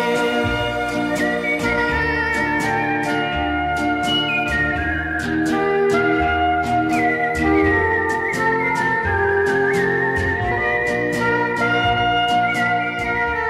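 A clear, high whistled melody glides over a full pop band with steady drums and bass, carrying the tune in place of sung vocals at a constant, loud level throughout.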